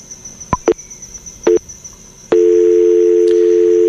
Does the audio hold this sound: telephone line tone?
yes